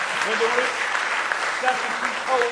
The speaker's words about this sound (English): Give him one more good hand clap of praise tonight.